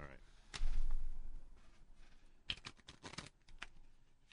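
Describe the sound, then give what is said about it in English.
A deck of playing cards being shuffled: a loud handling thump, then a quick burst of crisp, rapid flutter and snapping clicks as the cards riffle together, ending in a few soft taps. “All right, I'm gonna. Shuffle.”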